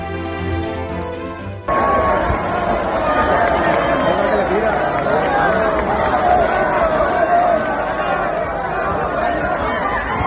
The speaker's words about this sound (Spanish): Estamos escuchando el sonido ambiente de la segunda Puerta del Príncipe que ha logrado Roca Rey en la Feria de Abril. La segunda en dos años consecutivos, 2023 y 2024.